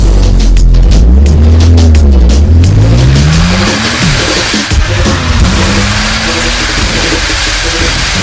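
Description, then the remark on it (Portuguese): A loud tuned, lowered car engine revs hard, its pitch sweeping up and down through several throttle bursts before settling into a steady, rising roar at maximum acceleration. “Carro tunado, máxima aceleração.”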